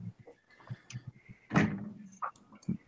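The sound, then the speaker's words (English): Two doors, a red one and a blue one, sliding open with a heavy rumbling whoosh midway through, surrounded by softer knocks and thuds, moderately loud, with no voices. “As he's contemplating, two doors open up behind him.”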